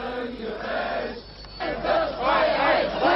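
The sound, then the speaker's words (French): A large crowd of nearly 5,000 demonstrators marching on the central square of East Berlin chants and shouts for freedom and democracy in unison, voices rising and falling in rhythmic waves, loud and continuous, with a brief dip before the chanting swells again. “Au cri de liberté et de démocratie, ils sont près de 5000 à défiler sur la place centrale de Berlin-Est.”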